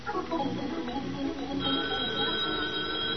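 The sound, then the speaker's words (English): A telephone bell rings in one continuous, sustained burst, a bright metallic jangle that settles into a steady, high-pitched tone, with no voices over it. “There ought to be a way you could tell it's a date by the way the phone rings.”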